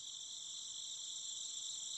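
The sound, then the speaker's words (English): Steady, high-pitched chirping of insects, like crickets, fills the night air in a continuous shimmering drone with no pauses and no talking. “For a moment, they all sat there together, the stars overhead twinkling, the sound of chirping insects in the night air.”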